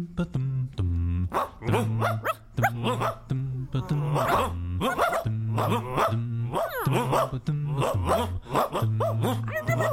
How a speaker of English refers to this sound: your dog is freaking me out.